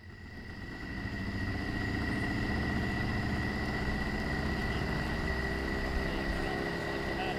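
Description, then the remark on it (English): A boat engine idles steadily at a public boat launch on the New River in Montgomery County at midnight, its low rumbling drone swelling during the first second and then holding even and loud, with a faint whine above it. “Next, at a public boat launch on the New River in Montgomery County, midnight wasn't too late for some boaters or for a great blue heron.”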